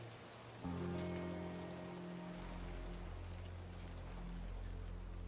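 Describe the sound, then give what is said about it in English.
Steady rain pours down in a dense, continuous hiss, with sustained low tones swelling underneath as a deep drone enters and holds to the end. “Raindrops roll down Matt's face as they grip each other's hands.”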